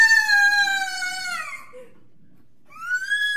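A girl screams in a homemade video, a long, shrill, sustained wail that slides downward and breaks off, then after a brief silence a second high scream rises up loudly.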